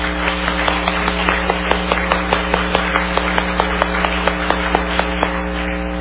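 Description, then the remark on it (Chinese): A church audience applauds to thank God and the brothers and sisters who did the construction work for Star Music, with a steady stream of claps rolling on for several seconds over a constant low hum, at moderate volume and without any talking. “们应该再一次为到星星音乐施工的弟兄姐妹拍手来感谢神好吗？”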